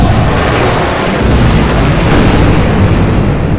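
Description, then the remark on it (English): A loud, dense barrage of heavy weapons fire and explosions from tanks and fighter jets, the booms blending into a continuous rumble for several seconds with no voices. “The human tanks roll towards it, the fighter jets banging around to come in for a strike. All fire.”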